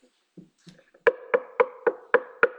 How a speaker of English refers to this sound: You hear a knock. What does it do? What does it make you want to do? The average person is going to get curious and go find out who's at the door.